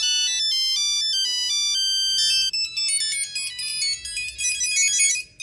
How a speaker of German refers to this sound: Zum Beispiel ist das ja mit dem Aufkommen der Handys, von den Mobiltelefonen sofort ein grosser Markt um die personalisierten Klingeltöne entstanden.